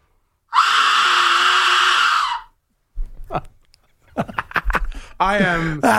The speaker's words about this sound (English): There's got to be more to it than that. No, that's what it is. That's the Aztec Death Whistle.